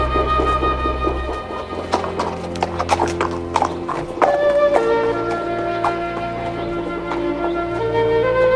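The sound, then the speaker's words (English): Horse hooves clop at an unhurried, uneven pace across a hard courtyard of the grand Valmaseek estate as the dismounted rider goes to tie up the horse, clear, with a low steady hum of music or drone underneath and no talking. “He dismounts and limps slowly across the courtyard to tie up his horse.”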